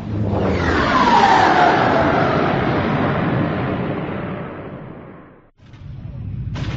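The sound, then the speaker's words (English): A wave of skip-ray blast boats roars past with a falling whine, firing rumbling bursts of laser fire at a warship, loud for several seconds, then a brief drop before another pass surges in. “Another wave of skip-ray blast boats shot past, pelting the Tyrannic with laser fire.”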